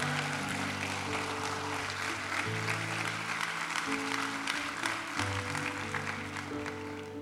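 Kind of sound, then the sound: crowd, audience applauding loudly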